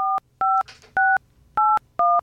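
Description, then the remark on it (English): Touch-tone beeps of a phone number posted by the Eagles, a Kansas City number tracing to Richmond, Missouri, being dialed: five clear dual-pitched tones in a steady rhythm with short gaps, fairly loud, with a faint rustle between two of them. “I dialed it. Sam, you want to let people know what you hear when you call?”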